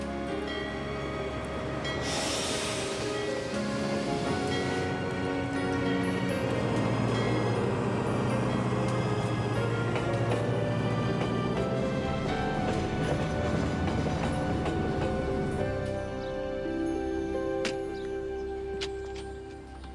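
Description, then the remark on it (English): The 11:45 train to Springfield departs, rumbling and rolling along steadily, its rail clatter and metallic squeals filling the scene at a constant, loud level for the whole stretch, with no talking. “Last call. 11:45 to Springfield. Ames View in Wilson's Falls. All aboard.”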